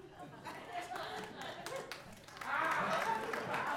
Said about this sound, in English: First of all, keep clapping.